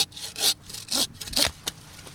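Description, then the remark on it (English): A saw cutting down a tree at Hollow Creek Tree Farm, a Christmas tree farm in Gilbert, South Carolina, with four or five rhythmic rasping strokes roughly half a second apart, bright and hissy, each rising and falling in loudness. No voices. “The sound of a saw cutting down a tree is a familiar one at Mike McCarthy's place in Gilbert.”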